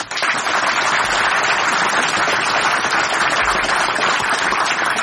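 Sustained audience applause for Herr Effenberger fills the whole stretch, a dense, steady wash of many hands clapping at an even loudness with no voices over it.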